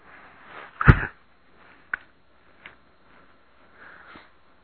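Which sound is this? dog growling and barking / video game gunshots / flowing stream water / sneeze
sneeze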